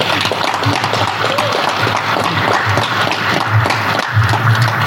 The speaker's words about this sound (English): Those are ZANU-PF officials applauding Mnangagwa's re-election.